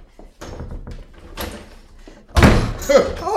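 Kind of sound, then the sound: household object, door being opened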